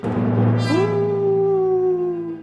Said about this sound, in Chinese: 狼在嚎叫